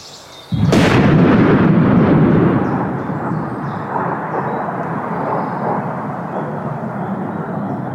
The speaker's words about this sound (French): Quant au son, le plus simple une fois encore est de le faire entendre. Le coup de feu marque le début du travelling. Voici.